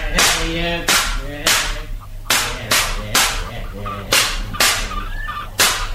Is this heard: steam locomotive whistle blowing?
no